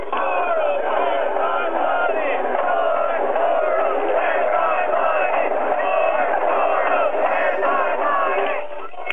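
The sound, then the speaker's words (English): A large crowd of Beverly Hills Antifa protesters in Beverly Hills in March 2017 shouts and chants together in a dense, continuous roar of many voices, loud and steady for the whole stretch, with raised yells rising out of the mass before it cuts off abruptly. “Okay, this really is a crowd of people.”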